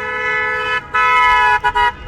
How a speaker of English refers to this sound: And that wasn't a car that just drove by beeping a horn. That was Jonathan Lanzi with his loud bike horn.